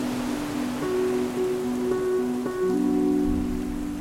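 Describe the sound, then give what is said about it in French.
Heavy storm rain at sea pours in a dense, steady hiss, with sustained humming tones drifting through it and a deeper rumble swelling near the end. No one speaks. “La tempête dure 9 jours et 9 nuits.”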